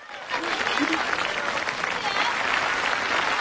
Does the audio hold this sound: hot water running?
no